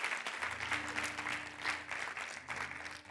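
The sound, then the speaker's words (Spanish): A Hispanic church audience applauds steadily, a dense wash of many hands clapping at once, sustained, with a faint low hum underneath and no voices standing out. “Así que si lo recibes hoy, dale un fuerte aplauso.”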